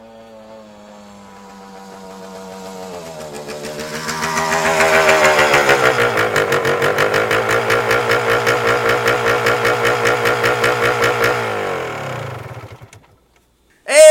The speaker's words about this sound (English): So as promised, I think we're going to be able to get a good listen to his motorcycle as it pulls up to the house.